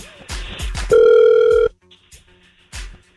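A phone call placed from the radio station Hot 96.9 rings through: one steady, loud electronic ring tone lasting under a second, surrounded by a few sharp clicks and thumps like handset handling. No one speaks.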